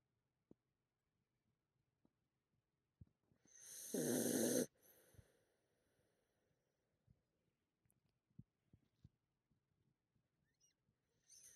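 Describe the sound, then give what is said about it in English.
A female dog gives a single loud, rasping snore lasting under a second, surrounded by long near-silence broken only by faint small clicks and shuffles. “Get some clean snores for us.”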